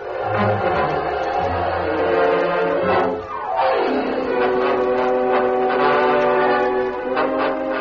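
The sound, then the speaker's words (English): A train rumbles steadily along while its horn blows loud and sustained, the pitch sliding downward midway as it passes by, then holding again as the train keeps rolling. “The following morning, the general headed east for Washington, and Greg took the company train for Warren City.”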